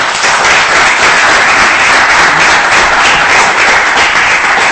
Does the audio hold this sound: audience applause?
yes